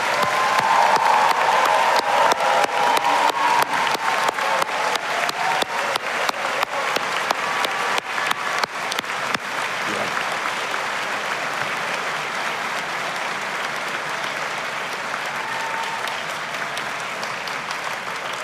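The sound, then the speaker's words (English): Sustained applause from a large crowd for graduates at a graduation ceremony, dense and steady clapping that stays loud throughout, with a few faint cheers mixed in early on and no one speaking over it. “Let's have a round of applause for our graduates.”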